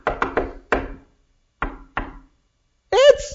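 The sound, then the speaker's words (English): A patterned knock on a wooden door: a quick run of four raps, a pause, then two more, crisp, followed by a brief voice calling out. “And two, there's a distinctive knock on the door.”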